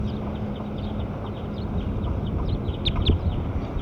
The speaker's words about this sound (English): 8's doing something too. So I'm recording bird 8. Yeah, it's her.